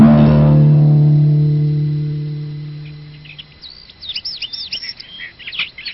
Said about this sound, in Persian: صبح روز بعد با سر و صدای پرنده ها مادر محمد از خواب بیدار شد